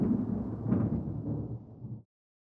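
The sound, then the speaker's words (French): A deep rolling rumble of thunder during a storm, with a brief sharper crack partway through, loud, sounding alone for about two seconds before stopping abruptly. “Ferme vite la fenêtre, il y a de l'orage. Tu n'entends donc pas le tonnerre ?”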